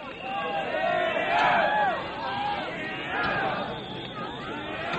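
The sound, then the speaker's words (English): A large crowd at the Berlin Wall cheers and shouts excitedly as a mechanical digger begins to pull down part of the wall, a dense roar of many voices with rising whoops, loud and sustained throughout. “The gathered crowd went wild as a mechanical digger began to pull down part of the hated Berlin Wall.”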